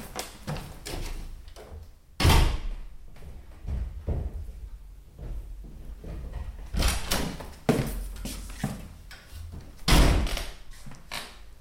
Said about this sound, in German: Das ist jetzt die Wohnungstür. Und die gehört man vor allem, weil sie alle immer ins Schloss fallen.